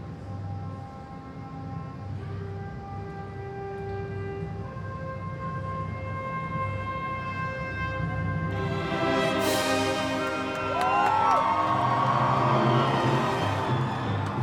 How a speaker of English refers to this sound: This is probably the quietest you'll ever hear a crowd at a pop rock music festival, but it's a hush of anticipation. They're waiting for a trumpet entry.